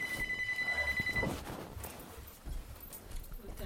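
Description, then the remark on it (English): A cell phone rings with a fast, warbling electronic trill for just over a second, fairly faint, over a muffled clattering background that continues after the ring stops. “Yeah, well, that's the first thing that needs attention, is if we can do a cell phone check, please.”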